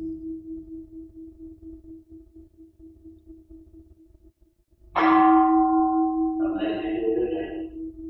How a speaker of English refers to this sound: Let's listen to the bell. When we hear the gong, we know it through the ears.